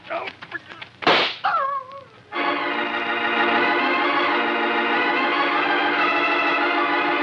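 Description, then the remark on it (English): A single sharp gunshot cracks out loudly after brief voices, followed by a short cry and then a sustained swell of dramatic music. “As Mark hears the shot, his heart leaps into his throat.”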